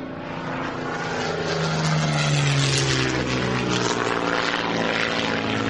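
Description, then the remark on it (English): A propeller transport plane's engine drones steadily in flight into Fairbanks, a loud, continuous roar with a low humming pitch that shifts slightly midway, filling the whole stretch with no voices. “Let's get him into the plane. We'll have to take him into Fairbanks.”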